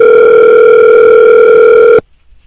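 A telephone rings with one loud, steady electronic tone holding for about two seconds before cutting off abruptly into near silence. No voices are heard.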